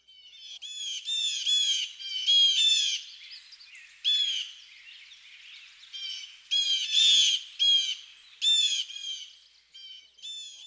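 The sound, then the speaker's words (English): Several blue jays give harsh, raspy jay calls in a loud, overlapping chorus as a flock moves about, bursts repeating in quick clusters with brief pauses, with no voices present. “These harsh JJ calls are often heard in chorus as flocks of these noisy birds move about.”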